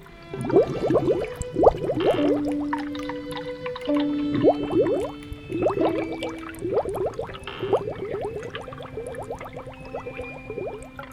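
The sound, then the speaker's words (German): An ambient sound installation in a hospital parking garage, heard on stepping out of a car, developed by students of Aalto University in Helsinki with their lecturer Antti Ikonen: a steady stream of watery, droplet-like plinks rising quickly in pitch, layered over soft sustained tones that shift every couple of seconds, with no voices. “So klingt es dann zum Beispiel, wenn man im Parkhaus des Krankenhauses aus seinem Auto aussteigt.”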